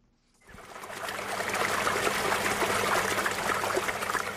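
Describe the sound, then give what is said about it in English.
Fresh spring water at New Harmony Farm, north of Johannesburg, South Africa, below the Magaliesberg Mountains, trickles and splashes steadily after a brief quiet start, a continuous bright babble with no voices. “Fresh spring water nourishes New Harmony Farm north of Johannesburg in the shadow of the Magaliesberg Mountains.”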